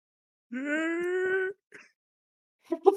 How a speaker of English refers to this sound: You hear a light scream.